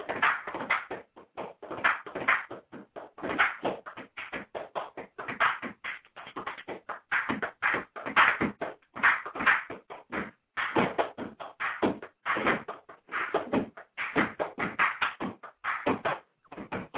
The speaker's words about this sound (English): I can do a little percussion for you. Yeah. Hook us up a little bit. See if the phone picks this up.